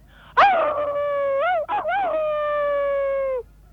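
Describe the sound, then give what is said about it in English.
A man in New Plymouth imitates a wolf howl: one long, loud wail of about three seconds, wavering briefly in pitch midway before sliding slightly downward and cutting off. “Let's hear your wolf howl there.”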